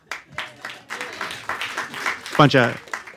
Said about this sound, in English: Bunch of people missing the train applauding.